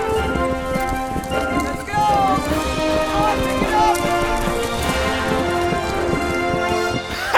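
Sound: horses galloping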